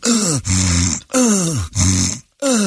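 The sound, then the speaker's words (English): A voice imitates snoring with loud, rasping grunts in a steady rhythm, four or five drawn-out snorts separated by brief pauses. “He was snoring.”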